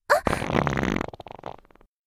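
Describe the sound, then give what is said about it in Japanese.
A long, loud fart with a sharp onset, a sustained buzzing middle, and a sputtering series of short pops trailing off near the end, with no talking. “やだ、音が。臭いおなら、出ちゃう。”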